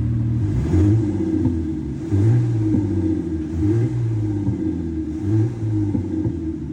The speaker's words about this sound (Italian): Accendiamo un parametro che desideriamo e l'auto inizia a cantare.